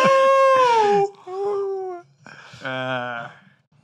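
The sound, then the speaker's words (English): A person mimics a dog's howl in three long, wavering cries, the pitch sliding and bending, voiced fairly loud with short gaps between them. “You start howling, dude?”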